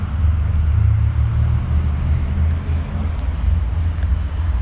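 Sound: road traffic passing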